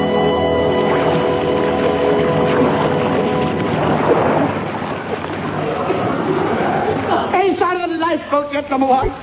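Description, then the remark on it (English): Stormy sea waves and howling wind roar loudly and steadily, a dense wash of surging noise with a droning tone early on, and a voice begins speaking over it near the end. “Poor devils out of this weather. The waves are like monsters.”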